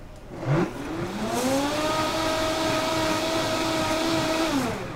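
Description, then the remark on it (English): A blender whirs up to speed and runs steadily with a high motor whine over a churning liquid swish, loud, blending equal parts sugar and boiling water until clear, then starts winding down at the end. “Okay, and we want to blend that so it's clear.”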